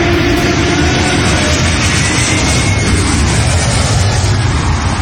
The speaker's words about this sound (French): Alors, sur les réseaux, j'imagine que vous avez tous vu passer une vidéo très impressionnante qui nous vient d'Afrique du Sud avec ces deux avions qui passent au-dessus d'un stade lors d'un match de rugby. Écoutez le son.